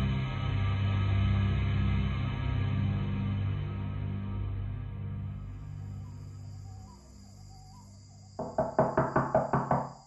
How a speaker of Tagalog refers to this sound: Hindi raw nakatiis ang lolo ko at kinatok ang nakasarang pinto ng bahay ni Rona.